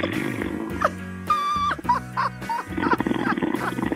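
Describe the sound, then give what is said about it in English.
Loud snoring from a caller who fell asleep on the phone line during a call-in to CBS Sports Radio's After Hours: several rough, rasping snorts and growling breaths in uneven bursts, some with a buzzing, tonal drone, with no one talking. “We put another guy to sleep. He's snoring.”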